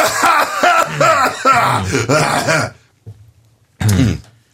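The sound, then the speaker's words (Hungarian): A run of harsh, throaty coughs and throat-clearing bursts, loud, for a few seconds, then a brief quiet pause before one final rasping cough. “Mondjad be, hogy most mindenki halkítsa le, köhögni fogok.”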